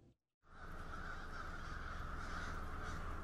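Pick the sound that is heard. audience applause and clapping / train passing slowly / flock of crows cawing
flock of crows cawing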